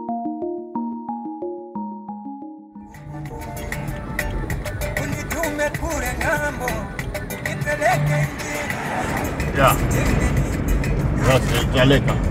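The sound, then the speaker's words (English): A brief plucked melody gives way to the steady rumble of a car driving north out of Lilongwe, Malawi's capital, continuous, with indistinct voices and scattered clatter layered over the engine and tire noise. “I'm in a car driving north out of Malawi's capital city of Lilongwe.”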